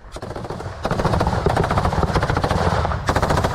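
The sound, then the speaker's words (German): Loud, sustained bursts of machine gun fire from soldiers advancing in small groups along gravel roads beside armored vehicles, rapid cracks rattling almost without pause, growing heavier after the first second and continuing in dense volleys to the end. No voices. “Andere werfen auf einem Feld Granaten auf Stellungen, wo sie russische Truppen vermuten.”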